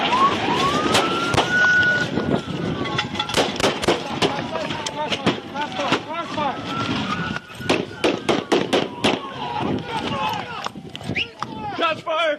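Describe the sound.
Rapid, irregular volleys of loud gunshots crack over a wailing police siren as four FPD officers fire at a truck driver at the end of a chase by Alaska State Troopers on the Richardson Highway, Alaska; many shots in quick succession, with voices shouting beneath the noise.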